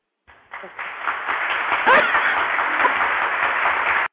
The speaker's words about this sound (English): Sorry, Goldie has an applause button.